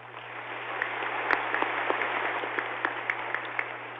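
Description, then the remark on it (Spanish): An audience applauds steadily for several seconds in tribute to Doctor Pedro Gómez for his 11 years of service, a dense wash of many hands clapping with a few sharper claps standing out, heard at moderate volume over a faint low hum. “Lo aplaudimos desde el fondo del corazón.”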